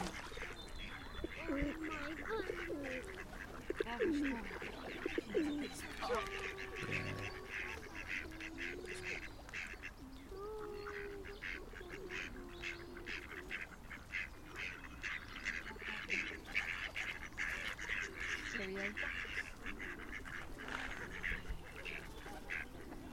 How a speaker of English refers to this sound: The ducks are mainly in the water to our left, but there's a couple to our right, just three of them.